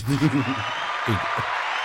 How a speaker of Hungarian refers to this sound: Keresek egy tapsot, ha találok.